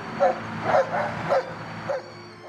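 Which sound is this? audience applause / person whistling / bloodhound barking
bloodhound barking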